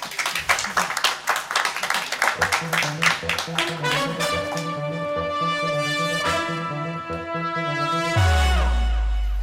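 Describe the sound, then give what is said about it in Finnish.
The audience of the Kulttuuri Ykkönen Kisastudio, broadcast live from the Oodi central library, applauds with brisk, dense clapping that gradually thins out as a melodic jingle with sustained tones rises and takes over, ending on a deep low note. “tehdään se jälleen kerran aplodien kerran.”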